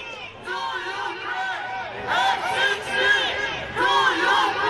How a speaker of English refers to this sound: Protesters lined the route of his motorcade shouting F-16s to Ukraine.